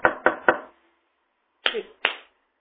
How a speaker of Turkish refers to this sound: Kapıyı, arkadaşım kapıyı, zili kapı çalma adabını bilmiyor.